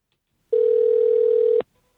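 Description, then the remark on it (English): A telephone ringback tone while calling: one steady, loud electronic hum lasting about a second, starting and stopping abruptly, with quiet before and after and no voices. “I'm going to call”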